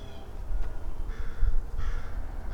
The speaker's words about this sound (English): listen to that crow. There's a cranky crow over there.